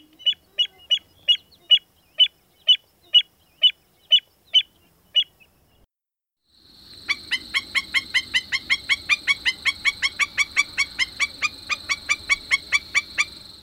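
An American avocet gives a series of sharp, evenly spaced piping calls, about a dozen in a row, then a black-necked stilt takes over with a faster, continuous run of yapping, nasal notes over a faint background hiss; both are wading shorebirds, in a recording by Lang Elliott from the Stokes Field Guide to Bird Songs.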